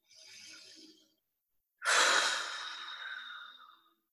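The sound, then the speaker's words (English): During a guided breathing exercise, a soft, short inhale through the nose is followed by a pause and then a long, slow, breathy exhale through the mouth that starts strong and gradually fades, with no talking. “Breathing out what you no longer need.”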